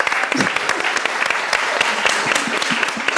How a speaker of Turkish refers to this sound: Alkışlama isteği birikti. O yüzden söylüyorum. Fazla alkışlamayın. Alkışlamalara doyamayacaksınız çünkü.